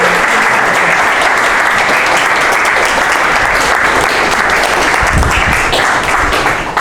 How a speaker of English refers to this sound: Could you come down the front, and could everyone else just give these guys a big round of applause?